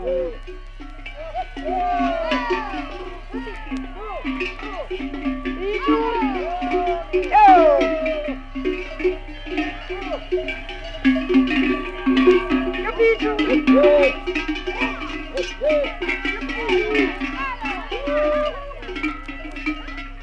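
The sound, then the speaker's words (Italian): Many bronze cowbells, cast in Switzerland and tuned to the seven musical notes, clang and jingle continuously in an overlapping, irregular chorus as a herd of Carnic cows climbs to mountain pasture, with faint animal calls mixed in. “Ora sì, salgono i campanacci, i carnici sampoins.”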